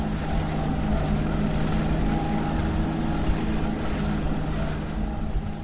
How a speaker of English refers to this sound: And near the ski hill again, still more tracked vehicles zip by, sometimes also the occasional snowmobile.